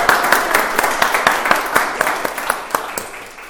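A crowd applauds, many hands clapping in a dense, steady patter with sharper individual claps standing out, loud at first and easing slightly toward the end.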